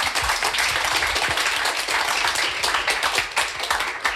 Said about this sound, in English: And I think a round of applause at that stage to our panel.